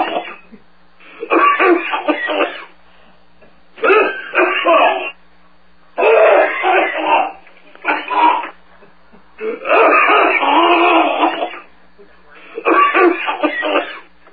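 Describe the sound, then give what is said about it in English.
Harsh, heavy coughing from a caller comes in repeated loud, rasping fits, about six bursts with short pauses between them, over a faint steady hum, heard through a phone line. “Terrible coughing. Yes, I hear that.”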